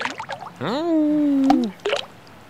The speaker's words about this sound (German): Da sind die Steine, die ins Wasser fallen.